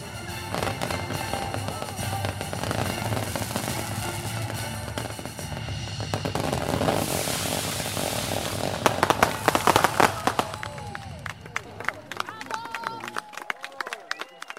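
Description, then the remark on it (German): Fireworks for a bride and groom, set off by a country road in Brandenburg, pop and crackle in a steady stream of sharp bangs, building to a dense, loud flurry before thinning out, with a low rumble and murmuring voices beneath. “Ein Feuerwerk für das Brautpaar.”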